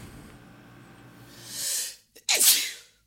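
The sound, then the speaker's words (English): A single loud sneeze: a rising breathy intake, a brief catch of silence, then a sharp explosive burst that trails off quickly against faint background hum. “Bless you.”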